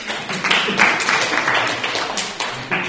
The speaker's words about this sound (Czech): Tak, můžeme mu zatleskat.